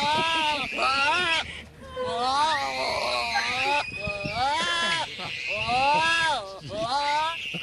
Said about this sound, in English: Oh my God! And now the goat's mad.